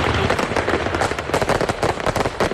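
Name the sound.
fireworks exploding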